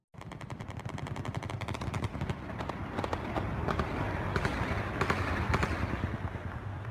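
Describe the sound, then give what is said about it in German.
Rapid automatic gunfire rattles in a dense burst, then continues as scattered sharp shots over a constant rumbling background of outdoor noise, fairly loud. Shots fired in Istanbul during a coup attempt. “Vor exakt 3 Jahren fallen Schüsse in Istanbul, Kampfjets donnern über die Stadt, die Bosporusbrücke wurde von Panzern beschwert, auf das Parlament in Ankara fallen Bomben.”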